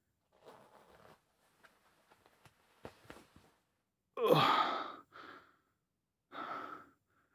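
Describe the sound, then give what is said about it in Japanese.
A few soft fabric rustles and clicks as a belt is undone, then a quick rasping zip as a trouser zipper is pulled down, followed by two shorter scraping pulls. No one speaks. “チャックも下ろして。”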